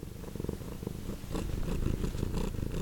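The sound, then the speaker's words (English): One of Kay's cats purrs steadily, a low rumbling rhythm of quick pulses that swells slightly louder partway through, with no talking. “I know Sandin worked very hard to get the right sound from Kay's cats.”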